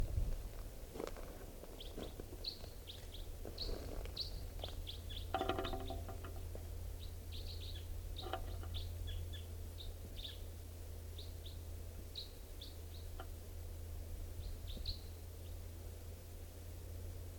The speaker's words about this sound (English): Wild birds here. Wild. Can't tell who's who and all stuff. This is one of the birds. And it just joined its mate. And they're just perched up in this tall Douglas fir above the net area.